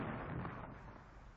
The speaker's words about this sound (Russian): Неужто бой опять? Шесть. Это салют. Совершенно верно. Шестидюймовая батарея салютует.